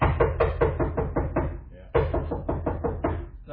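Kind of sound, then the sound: impact, knocking on a door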